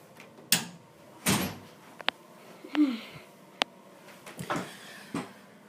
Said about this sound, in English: Close the door.